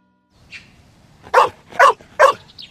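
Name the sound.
large dog barking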